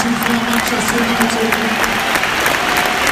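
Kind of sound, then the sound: crowd, stadium crowd applause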